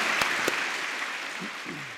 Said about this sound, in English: Well, listen, but what I would like to do before I wrap it up is let's have a massive round of applause, everyone here, please. Come on, really. Thank you so much.